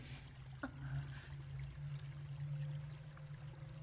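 Water pours and trickles steadily in a continuous hiss over a low droning hum, with one brief splash or knock near the start; no voices.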